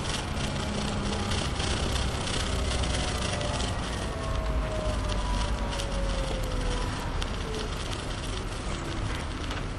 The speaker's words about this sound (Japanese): 夏目市、その並木道を、今通りまして、まもなく、メンフィスの方にバスが到着です。